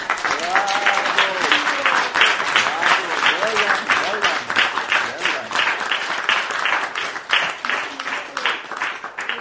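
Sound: audience applause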